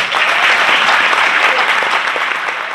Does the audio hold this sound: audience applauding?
yes